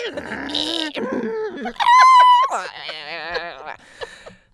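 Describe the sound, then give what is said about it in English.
A voice imitates a haunted modem with warbling, wavering tones, a loud piercing whistle, then wobbly bubbling squeals that trail off into scattered chirps. “How do I sound pixelated and spooky? And like a modem.”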